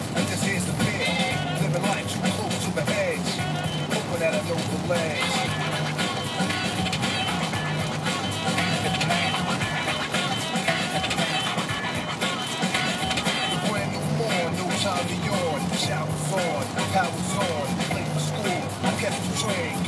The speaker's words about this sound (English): Traffic not too bad so far, but it is, the rain is substantial.